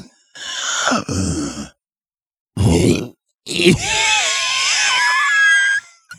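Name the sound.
cough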